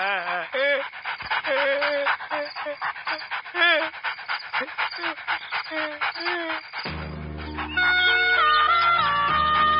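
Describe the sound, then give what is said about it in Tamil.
A dog pants rapidly and loudly up close, its breaths broken by high, thin whimpering whines for several seconds before music abruptly takes over. “எனக்கே அந்த நாய் பார்த்தா பயம்.”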